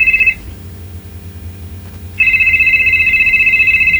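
signal or alarm, telephone ringing

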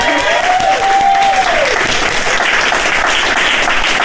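crowd, audience applause

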